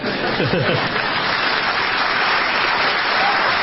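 Steady applause from an audience fills the whole stretch, a dense, continuous patter of many hands clapping at close range, with faint voices briefly audible near the start.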